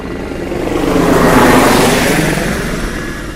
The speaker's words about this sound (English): Yeah, Control, you couldn't do anything about the Black Hawk helicopter, could you? It's spoiling my concentration.